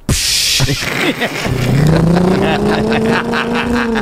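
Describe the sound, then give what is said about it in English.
A voice imitates a bus roaring past: a noisy burst, then a sustained droning engine hum that climbs steadily in pitch for a few seconds, loud throughout. “the bus would go by.”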